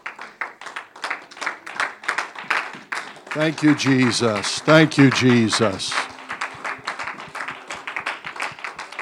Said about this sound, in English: Can we give the Lord a hand clap of praise together?